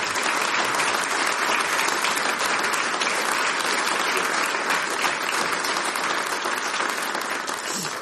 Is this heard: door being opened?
no